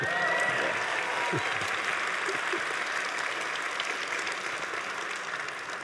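An audience applauds a guest who worked at Valve on games such as Half-Life 2, a dense, continuous wash of applause that stays loud and even, with a brief voice heard faintly at the very start.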